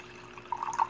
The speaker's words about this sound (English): That's liquid pouring out.